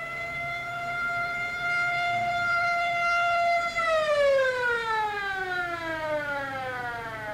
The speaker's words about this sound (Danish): Kort efter hørtes ambulancens sirene for første gang denne aften.